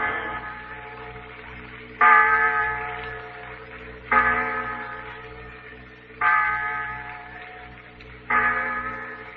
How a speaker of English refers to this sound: The clock in the insurance tower, Pete. 6 o'clock. Time for children to be sitting down to dinner.